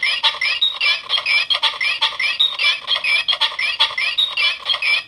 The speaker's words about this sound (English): I want to hear what these all sound like, because I don't think I've listened to all of them yet. This one is called Pogo Stick.